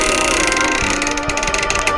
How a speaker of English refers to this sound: No one doubted that unspeakable horrors lurked behind the squeaking door of the inner sanctum.